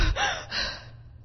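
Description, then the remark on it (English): A big, breathy gasp for air, two sharp loud inhalations in quick succession, trailing off into a faint exhale with no talking. “Not subtle little let me catch my breath displays, but big, wow, hyperventilizing gasp.”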